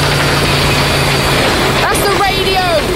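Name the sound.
vehicle engine running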